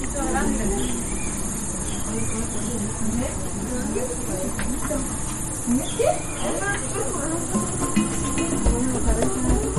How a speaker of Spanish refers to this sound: Niñas y niños, escuchen a las abejas, están trabajando.